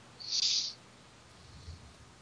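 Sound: owl hooting sound effect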